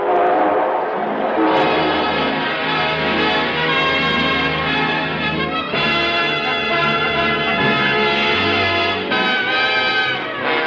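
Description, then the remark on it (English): A train whistle blows in sustained, loud chord-like tones while a low, rhythmic rumble of the engine pulling out runs underneath, filling the whole stretch without pause. “All aboard. Well, dear friends, it looks as though we're ready to pull out.”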